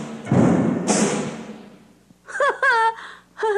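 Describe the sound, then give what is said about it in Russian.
Two heavy, booming thuds of frightening footsteps, each trailing off in a low rumble, followed by a few strained, wavering vocal cries. “Раздаются чьи-то страшные шаги.”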